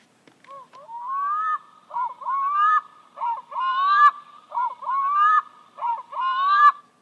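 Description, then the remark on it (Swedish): A black-throated loon calls in a series of loud, rising, wailing notes, grouped into about six repeated phrases with a rhythmic, yodel-like rise and fall, and no voices. “Stor lom kan vi få höra.”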